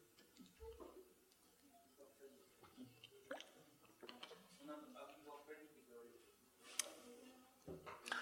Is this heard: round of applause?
no